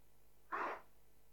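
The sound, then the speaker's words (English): A single quick sneeze, a sharp, breathy burst lasting a fraction of a second, standing alone against a faint background hum with no talking. “Bless you.”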